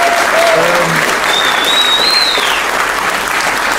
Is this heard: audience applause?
yes